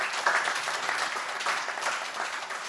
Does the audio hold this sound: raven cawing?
no